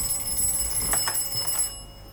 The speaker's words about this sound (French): Puis je vais ouvrir un autre signal. Ça, c'est l'annonce d'un train, donc qui va arriver.